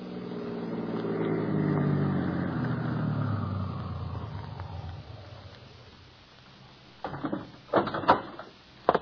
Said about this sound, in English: Because at this very moment, Gus Jansen glances at the slip of paper in his hand, the prescription blank he just stole from Mr. Eddy, stops his car in front of a rooming house.